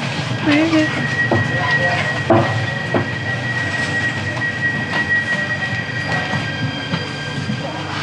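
A train rumbles steadily along the rails, with a constant low roar, faint metallic squeals and periodic clacks throughout, heard from inside a carriage.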